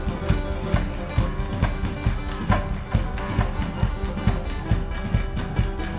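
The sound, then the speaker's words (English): An audience in the room claps along to a live song in a fast, steady double-time rhythm, sharp claps landing evenly over loud, continuous live music. “And a double time clapping like this.”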